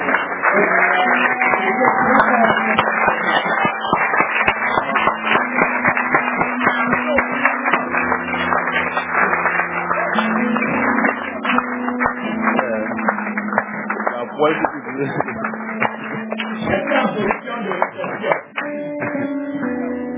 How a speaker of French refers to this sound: Applaudissez d'abord très fort.